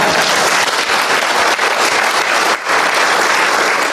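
A room full of people claps steadily, a dense, loud wash of applause that holds for several seconds with only a brief dip partway through.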